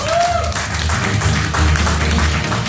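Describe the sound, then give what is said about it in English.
A crowd applauds in a steady, dense wash of clapping that stays loud throughout, with a short rising whistle at the very start. “Give thank him a round so of much. Applause.”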